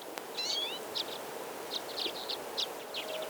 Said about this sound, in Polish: W tym roku mamy inwazję czeczotek, między innymi ptaków, które przyleciały do nas ze Skandynawii. Troszkę mniejszy ptaszek od rzepołucha, również z żółtym dziobem, ale już rzuca się w oczy czerwone zabarwienie czoła.